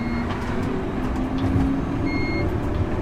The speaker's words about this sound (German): Das, was man hier im Hintergrund pfeifen, das ist ein sogenanntes Todmann-System. Das ist, je schneller dass der Wagenführer mit dem Tram unterwegs ist, desto kürzer ist der Intervall. Und damit kontrolliert, ob der Fahrer eine Reaktion gibt.